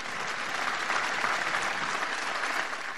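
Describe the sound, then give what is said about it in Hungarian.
A large audience at Pope Francis's general audience claps steadily throughout, a dense, sustained wash of applause with no break and no voices on top, greeting 200 sick people following the catechesis on screens in the Paul VI Hall. “Con un applauso salutiamo quelli che sono nell'aula.”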